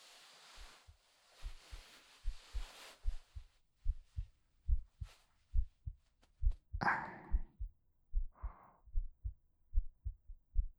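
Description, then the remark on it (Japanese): A steady human heartbeat thumps low in regular paired beats, with soft rustling and a brief breathy noise partway through; no one speaks. “私の心臓の音、聞こえる？”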